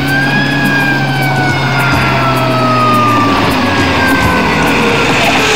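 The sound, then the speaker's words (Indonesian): A rescue vehicle's siren wails steadily, its tone sliding slowly downward over a loud, constant engine rumble, with no one speaking. The vehicle is arriving to help residents whose houses were damaged by a whirlwind and to take them to an evacuation shelter. “Nah, itu kendaraan yang mau membantu kita dan para warga.”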